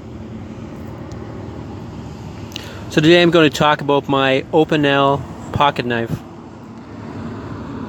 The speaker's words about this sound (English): But I'm downtown and there's buildings in the way and lots of traffic, as you've heard.